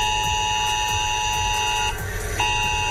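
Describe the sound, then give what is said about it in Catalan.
A loud, steady electronic alert tone blares continuously from mobile phones, a harsh buzzing pitch with a brief dip before it resumes, over faint background noise and no speech. It is a mass emergency-alert test on mobile phones in Catalonia, heard in the morning in Terres de l'Ebre, Camp de Tarragona and Penedès. “Era la segona prova massiva d'alertes d'emergència als telèfons mòbils que s'ha fet a Catalunya.”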